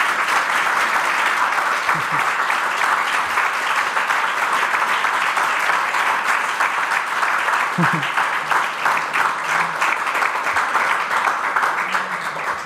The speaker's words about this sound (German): Wir machen eine kleine Pause, aber bevor wir das machen, bitte ich noch um einen Applaus für Florian Krammer.